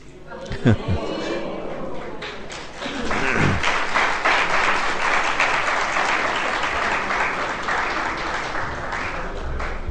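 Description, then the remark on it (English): A crowd breaks into sustained applause at the end of a Hare Krishna class, before a kirtan, many hands clapping in a dense, steady wash that swells after a few thumps and murmured voices at the start and continues to the end. “Why did you clap before the kirtan?”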